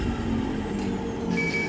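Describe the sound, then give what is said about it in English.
A pneumatic tube delivery, started by ringing and flipping on the tube's switch, rushes in with a steady, rumbling whoosh of air, then a single sustained electronic beep sounds near the end, after which the door is to be opened. No one speaks. “It's time to ring and flip on the switch for the tube.”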